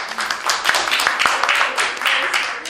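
An audience at a talk on preaching and audienceal development applauds steadily, a dense wash of many overlapping claps with a few sharper individual ones standing out, holding a fairly even loudness throughout.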